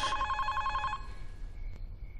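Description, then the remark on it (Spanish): A telephone rings with a bright, trilling electronic bell for about a second, then stops, leaving a low background rumble and a faint click. “Que nadie toque el teléfono.”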